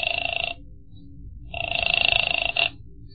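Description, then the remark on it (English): A telephone rings twice, each ring a steady buzzing trill separated by a short pause, fairly loud, with a faint low rumble underneath and no voices. “I used her phone and called one.”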